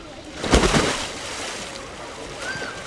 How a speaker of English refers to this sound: I decided to go for a swim.